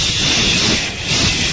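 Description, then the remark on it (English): A steady, airy hiss lasting under two seconds, made by a voice imitating air rushing out of a deflating balloon, fairly loud with no words. “It was like someone just pricked the balloon, and I just went,”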